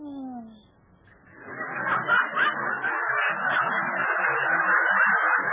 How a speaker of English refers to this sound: I meant it was the owl that said who. Oh, I thought you said it.